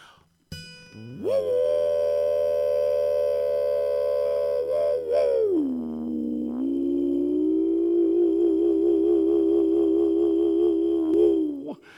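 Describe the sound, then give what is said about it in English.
A throat whistle imitates a train whistle: one long, loud, reedy tone of about ten seconds that slides lower midway, then holds with a slight waver before cutting off. No talking. “I met an old man on the train who could throat whistle just like ….”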